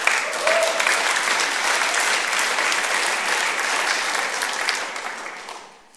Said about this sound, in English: But now that you've all clapped and cheered, it also requires something of us.